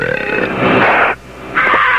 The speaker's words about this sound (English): All right, let me belch in your face and see if you don't feel better. Are you ready?